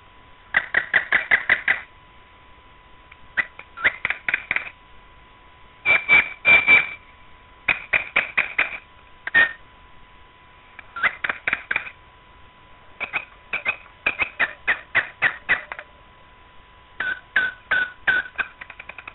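A Belarusian nightingale sings clearly, pouring out repeated phrases of rapid clicking trills and brief whistled notes, each burst separated by short pauses, with no voices present.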